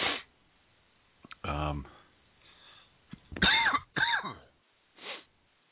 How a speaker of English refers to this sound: I got to clear my throat.